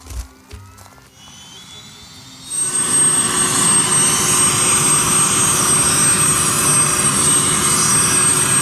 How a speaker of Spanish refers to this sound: se ponen de rodillas frente al helicóptero que arranca motores.